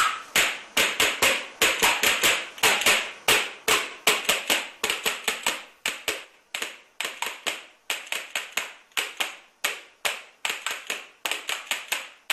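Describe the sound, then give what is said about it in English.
Rapid clacking of percussion spoons (loshkas), the fan instrument of the 2018 World Cup in Russia, sharp bright clicks in quick irregular bursts with brief pauses, played alone and fairly loud throughout. “Well, make way for Russia 2018 and the spoons of victory.”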